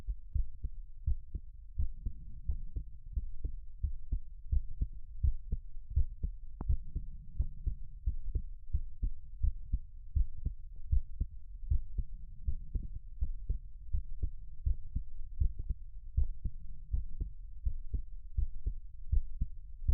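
human heartbeat

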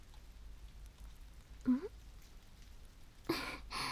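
rain falling

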